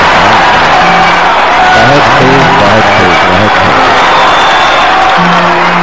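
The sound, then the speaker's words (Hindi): A loud, steady wash of audience applause welcoming two performers onto the stage for the next programme, dense and continuous, with voices calling out and talking underneath the clapping. “ताइए दोनों एक साथ रंगमंच पर हम और आप मिलकर तालियों की जोरदार गड़गड़ाहट के साथ अगले प्रोग्राम।”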